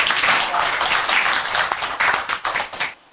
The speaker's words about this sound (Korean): 우리 모두 오늘 100일을 맞는 분을 위해서 박수를 주십니다.